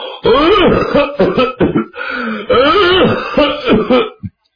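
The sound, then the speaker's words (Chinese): A man's voice acts out the raspy coughs and throat clearing of a man of about sixty walking out to answer someone calling at the door, several loud bursts in an uneven rhythm over about four seconds, ending with a short final grunt. “刚喊了一声，就听见脚步声音，有人咳嗽着走出来。”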